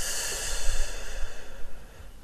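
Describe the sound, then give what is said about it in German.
A slow, deep breath drawn in and let out during a guided breathing exercise, a soft airy rush with no talking. “Atme nochmal tief durch. Also nimm nochmal Atem auf. Wir atmen ein und wir atmen aus.”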